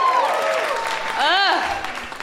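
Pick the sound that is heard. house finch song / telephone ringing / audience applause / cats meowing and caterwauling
audience applause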